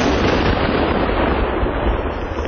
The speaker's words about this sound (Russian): Найденные мины и снаряды вывозят на специальные полигоны и подрывают.